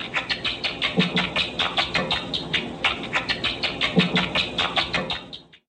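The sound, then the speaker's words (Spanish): Rapid chirping calls from tickled rats, their ultrasonic sounds lowered to audible frequencies with a bat-detector device, come in a quick steady pulse of short, bright squeaks for several seconds before cutting off. “Se pusieron a hacerles cosquillas y esto fue lo que oyeron.”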